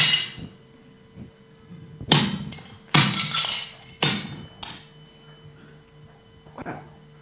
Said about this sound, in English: For smashing pottery.